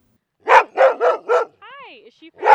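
Two rescue dogs, Macy and Izza, bark on a trail in the Shoshone National Forest in a quick burst of four loud barks, followed by a brief high whine and then one more bark.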